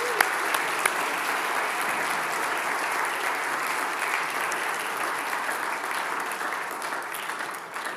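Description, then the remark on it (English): A crowd at a church service claps steadily and loudly for about eight seconds for the children who led worship, as they leave: a dense, even wash of applause with a few sharper claps near the start and no voices. “Can we give them another round of applause as they leave?”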